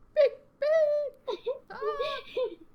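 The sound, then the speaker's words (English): A person imitates a bird's mating call with a run of about five high, warbling whoops and sliding squeals, separated by brief pauses. The vocalizing is fairly loud, with no ordinary speech. “Making like bird noises.”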